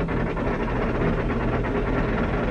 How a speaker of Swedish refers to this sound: Det är alltså ett vajerspel som sitter i det undre rummet, som drivs av en motor som sitter i det övre rummet, som firar ner klockan, firar ner sig själv mot ubåten.